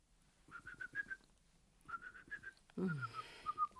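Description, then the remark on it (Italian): A person whistles at the dinner table a quick run of short, steady notes, pauses, then whistles another run; a louder, breathy vocal sound cuts in briefly while the whistling carries on faintly. “A tavola non si fischia, parla.”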